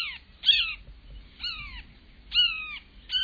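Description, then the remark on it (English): A bird imitates a red-shouldered hawk with four loud, harsh, down-slurred screams, roughly one each second, clear over a faint low rumble. “And astute mimicry of birds of prey, such as the red-shouldered hawk.”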